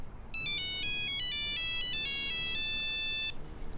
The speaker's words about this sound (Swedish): Din telefon ringer där.